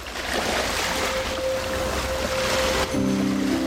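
Ocean waves of the Sea of Cortez wash and break against the shore in a continuous, fairly loud roar that swells and recedes, with a faint steady hum underneath and a low drone joining near the end.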